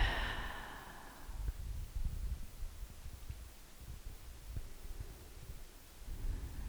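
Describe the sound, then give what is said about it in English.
A slow, deep breath in and out, airy, fading after the first second into quiet low rumble with no voices, during a guided breathing exercise. “Few more breaths, just like this, just breathing in and letting go.”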